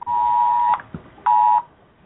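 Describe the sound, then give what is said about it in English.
A phone's emergency alert for a flash flood warning sounds: a loud, steady, piercing electronic tone holds for about three-quarters of a second, pauses, then repeats more briefly. No one speaks. “That was just an emergency alert.”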